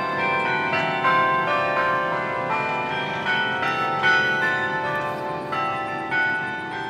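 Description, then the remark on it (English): Church bells peal continuously in overlapping, ringing strikes, a dense wash of bright tones with a steady rhythm of new hits, fairly loud, with no voices, heard from an office during the workday. “These bells have been the soundtrack to our workday, and while it's nice to be important enough to have a soundtrack, like most kinds of fame and fortune, it does come with some complications.”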